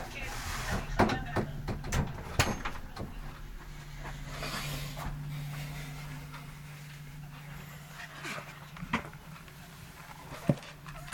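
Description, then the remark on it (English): A door is pushed shut with a few sharp clunks and knocks, amid faint shuffling and muffled background voices over a low steady hum. “can I just tell you to shut the door?”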